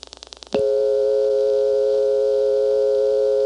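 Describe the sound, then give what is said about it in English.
Rapid series of rotary dial pulse clicks as a 0 is dialed, then a loud, steady telephone line hum starts abruptly as the dial comes back to rest and holds unbroken to the end, with no voices; the hum comes from a second dial tone in Plainfield triggered by an answer after the party hung up. “On the 0, when the dial comes back to rest, there's that hum that you only hear when the second dial tone in Plainfield has been triggered by an answer, and the party hung up.”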